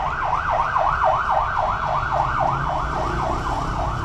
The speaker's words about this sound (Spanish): los camiones y las ambulancias pasando cuando estamos grabando. Nomás chéquense el audio de fondo tipo CSI que tenemos ahora.